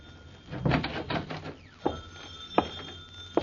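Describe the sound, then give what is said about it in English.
A telephone rings once in a short, rattling burst, followed by a few sharp, evenly spaced clicks. No one speaks. “Uh-oh, the phone.”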